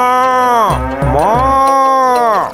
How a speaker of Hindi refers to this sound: रंभाती रही, पर भीमा नहीं जागा।